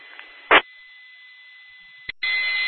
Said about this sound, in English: Well, I wonder what all that Christmassy tones were going on out there. Now I know.